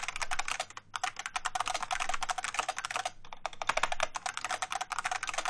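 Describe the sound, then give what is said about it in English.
Rapid, continuous clacking of keys on bespoke, customised mechanical keyboards, recorded for the Trunk label release, a dense stream of crisp clicks with brief pauses, fairly loud, with no voices. “Called …, recordings of bespoke and customised mechanical keyboards”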